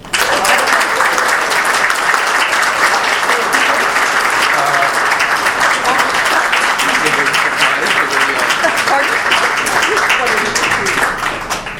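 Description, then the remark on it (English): Sustained audience applause welcoming a speaker, a dense steady wash of many hands clapping at an even, loud level for about twelve seconds, tapering slightly at the very end. “Ladies and gentlemen, I would hope that you would give a warm round of applause to”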